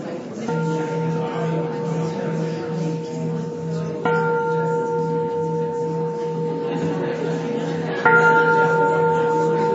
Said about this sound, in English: One of the cultural containers of Buddhism is that when the bell rings, you stop talking.